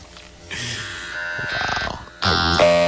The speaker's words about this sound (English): One long tone for yes. Two long tones for no. It would just be like the bit on Tron, you know.